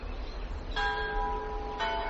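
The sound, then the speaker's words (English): An old clock strikes twice, each stroke a bright, ringing chime that hums on and fades into the next over a steady low rumble. No one speaks. “There goes the old clock.”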